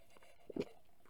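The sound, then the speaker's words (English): A quick, quiet sip of water: a tiny lip click followed by a short, soft slurp, with no talking. “So I'll take a sip first.”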